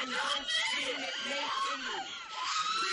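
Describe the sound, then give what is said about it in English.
An audience in a movie theater screaming together, a dense, continuous wall of high-pitched shrieks and cries overlapping for the full three seconds, loud and chaotic with no single voice standing out. “Scream for your lives.”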